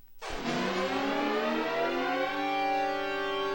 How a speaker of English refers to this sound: That sound played on phones throughout California last night when an Amber Alert was issued for Ethan and Hannah Anderson, who were reportedly abducted in San Diego.